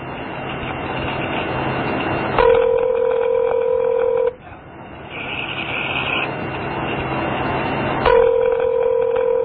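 A telephone line rings over a steady hiss while a call to the Westminster Police Department is being transferred, with two electronic ring tones about six seconds apart, each lasting a couple of seconds, heard as if through the phone line. No one speaks.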